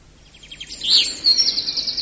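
A big bird calls with a bright, high warbling chirp that rises into a sustained, shrill trill, clear with no talking over it.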